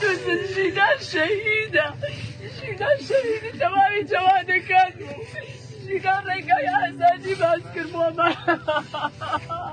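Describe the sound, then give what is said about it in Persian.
A relative of Mahsa Amini wails and keens in long, rising and falling cries of grief at her burial ceremony in Saqqez, over a restless crowd of protesters' murmuring voices, slogans and singing, sustained and loud throughout. “صدای شیون یکی از بستگان ژینا و شعارهای مردم معترض و سرودخوانی آنها در جریان مراسم خاکسپاری مهسا امینی را شنیدید.”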